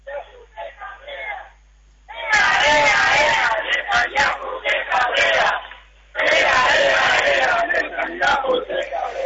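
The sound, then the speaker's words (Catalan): A large protest crowd passing through the centre of Vilafranca del Penedès chants slogans against Netanyahu loudly in unison, two long bursts of massed shouting separated by a brief lull, preceded by a quieter stretch of voices. “Una manifestació, com dèiem, que en aquests moments passa pel centre de Vilafranca amb crits en contra especialment de Netanyahu.”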